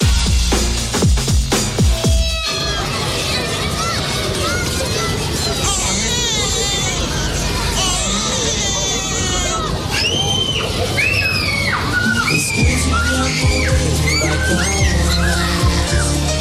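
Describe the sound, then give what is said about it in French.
Several young children cry and shout over a busy, noisy background of chatter, with high wailing cries and squeals rising and falling continuously throughout. “Ce concept des vacances avec les cris d'enfants autour de vous, est-ce que ça vous attire”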